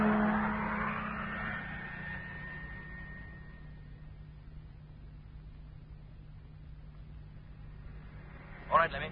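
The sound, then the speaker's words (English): A truck engine revs loudly, then settles into a steady, low running rumble that recedes somewhat as it moves off, with a short sharp burst of noise near the end. “Motor on. And here we go.”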